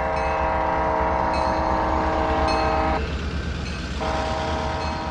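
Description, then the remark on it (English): A wayside horn system at a railroad crossing in a quiet zone: a small box mounted on double crossing gates blasts a steady, loud digital train horn sound at cars on the street, over a rumbling passing train that does not blow its own horn, with a brief dip midway before it resumes. “Significantly quieter, this railroad crossing uses a wayside horn system.”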